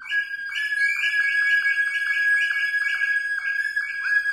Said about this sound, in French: Mais soudain, une sirène effroyable résonne tout autour de nous.